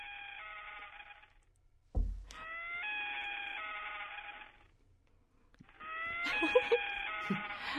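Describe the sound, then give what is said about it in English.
A small stuffed toy common loon (Gavia immer), bought at a national forest in northern Wisconsin, plays its call: three long, wavering, mid-pitched wails separated by short pauses. A dull thump falls between the first two, and the last call carries some extra clatter underneath. No one speaks. “That is the Gavia immer, a Latin name for the common loon.”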